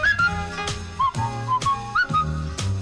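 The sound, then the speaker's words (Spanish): A cheerful whistled tune from a song in the 1979 film Life of Brian rises and falls in short sliding phrases over a bouncy band accompaniment with steady rhythmic accents, clear, with no voices. “Y además yo creo que con uno de los tarareos, ya verás que se contagian ahora los oyentes, tarareo o silbido más populares del cine.”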